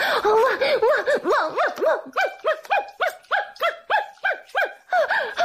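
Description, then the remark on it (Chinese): A woman's voice imitates a dog barking, giving a quick rhythmic series of about a dozen loud yelping barks in steady succession with no other talking. “好，老公你听好了，老婆我这就学母狗叫给他们听。”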